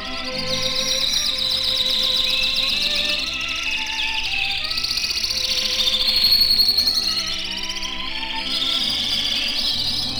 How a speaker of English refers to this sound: Well, our master radio canaries now bring a message of love and devotion to you, fair listeners, as they sing